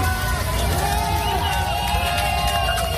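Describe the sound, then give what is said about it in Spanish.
A dense outdoor crowd of local residents in Rostov roars steadily throughout, with clapping and cheering blending into a constant wash of noise and a few voices rising above the din, applauding Prigozhin as he leaves the city late at night. “Lo que ya es un hecho es que anoche, a última hora, el propio Prigozhin abandonaba Rostov en medio de los aplausos de algunos vecinos de esa ciudad.”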